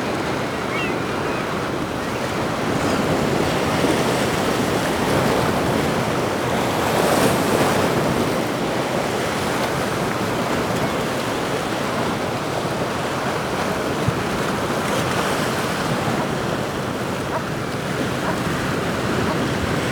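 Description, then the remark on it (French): Ocean waves break steadily on the shore at Pointe de la Grave, by an expanse of dunes, in a continuous, loud wash of surf, with gusts of wind buffeting the microphone and no voices present. “Balayé par le récital des vagues.”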